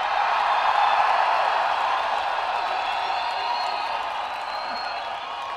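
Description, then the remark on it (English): A live audience cheers and applauds in a dense, continuous roar of clapping and voices that holds steady for several seconds before easing slightly toward the end. “You are an excellent crowd.”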